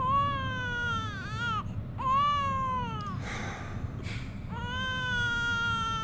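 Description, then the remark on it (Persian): A baby cries steadily in long, wailing bursts with brief gasping breaks between them, loud, with a low background rumble underneath throughout. “این بچه دست از گریه کردن بر نمیداره”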